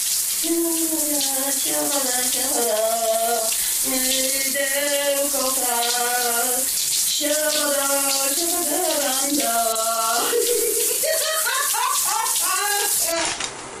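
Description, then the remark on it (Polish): A shower runs steadily with a continuous hiss of spraying water, while a voice sings or hums a wavering melody over it, fairly loud throughout. “Prysznic!”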